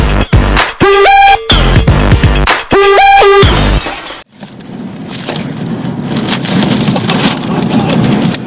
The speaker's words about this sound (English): An unusual supercell storm travelled through parts of the UK on Monday, which resulted in a tornado hitting Oxfordshire. Videos uploaded onto YouTube showed the twister appearing across the county.